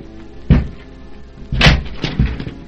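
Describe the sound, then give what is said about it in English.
A locked door, behind which Emile Zola and his wife were found, is forced open by two men with a series of heavy, booming thuds and cracking blows: one hard hit, a longer splintering crash, then two quicker knocks. No one speaks. “Jacques, we must break open that door.”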